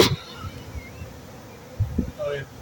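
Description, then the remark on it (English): A steady, diffuse buzzing of a swarm of many docile bees pouring out around a hive entrance hums throughout at moderate volume, with brief muffled voices and thumps breaking in near the end. “It's like a whirlpool right now. Bees just pouring out.”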